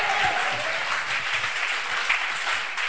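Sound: audience clapping hands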